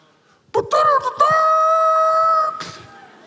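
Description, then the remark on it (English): A loud, brassy trumpet blast opens with a quick wavering rise, then holds one bright note for about two seconds before cutting off, sounding much like a rooster's crow. “That sounded more like a rooster.”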